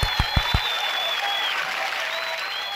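An audience breaks into a round of applause: a few sharp, separate claps at first, then a steady wash of clapping, with a thin high whistle sliding through it.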